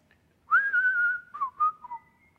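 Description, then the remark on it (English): A single person whistles a short melody from the Italian Western film The Good, the Bad, and the Ugly: one long sliding note held steady, then a few quick clipped notes falling away, with no talking. “Anybody can whistle that?”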